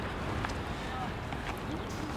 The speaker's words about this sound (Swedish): Ja, det lokala klimatet här påverkas av glaciären. Som ni hörde så blåser det alltid en kylskåpskall vind ner för glaciärisen.